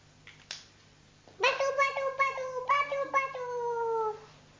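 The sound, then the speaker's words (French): A cat lets out one long, drawn-out meow that wavers and pulses for about three seconds, fairly loud, after a couple of faint knocks. “Oui, pour le chat, c'est. Le chat.”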